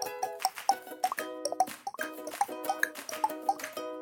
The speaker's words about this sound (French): D'habitude, un match de ping-pong, ça fait ce bruit-là.